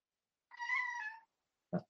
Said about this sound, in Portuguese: O que você quer, gato? Para de perturbar.